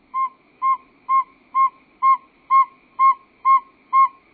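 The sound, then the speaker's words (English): A male northern saw-whet owl gives its advertisement call: a steady series of nine clear, whistled toots, evenly spaced about twice a second, loud against a quiet background. “The advertisement call of a male saw-whet owl.”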